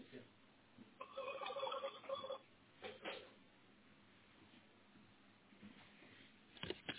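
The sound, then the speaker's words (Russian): A telephone rings once with a call from parents, a warbling burst lasting just over a second, clear, followed by a few handling clicks and quiet background noise. “Вам звонят родители, сейчас перезвонят.”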